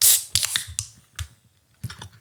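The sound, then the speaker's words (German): A can of Zeus Craft Beer 'Dutch Bargain', a Pacific Haze New England IPA, being opened: a short fizzy hiss at the start, followed by a few sharp metallic clicks and taps spaced irregularly, fairly quiet with no voices. “Und so hört sich das an beim Öffnen.”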